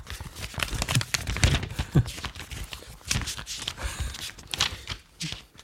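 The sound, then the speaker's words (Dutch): Pages of a paper diary lying on a table being flipped: a run of quick, irregular papery rustles and soft slaps, moderately loud, with brief pauses between bursts and no clear talking. “Je papieren agenda ligt hier op tafel.”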